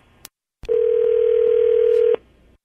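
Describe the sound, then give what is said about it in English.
A phone call to a man rings out with one long, steady electronic ringback tone lasting about a second and a half, loud, after a faint click, with no talking. “Okay, let's give him a call and see what happens.”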